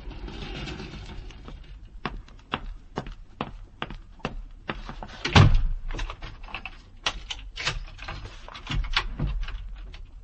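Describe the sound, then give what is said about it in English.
An elevator door slides open and shut amid a run of mechanical clicks and rattles, with a heavy thud near the middle; moderately loud, with no voices. “Well, here's the elevator.”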